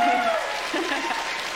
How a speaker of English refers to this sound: I got a question for our audience here. Oh, how many of you think that baby boogers are a big problem? Can you relate to that? Yeah. Clap.